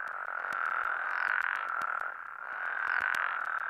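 frogs croaking

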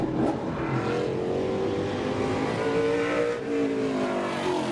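race cars revving

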